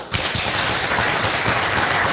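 An audience applauds as a vote in a debate, a dense wash of many hands clapping at once that stays loud and even for a couple of seconds with no one speaking.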